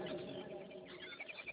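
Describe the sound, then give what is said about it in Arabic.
Soft bird chirps at sunrise rise over a low background hum, a few quick high tweets clustering toward the end, fairly faint. “بردت العصافير على ما تبقى فيها من شبع،”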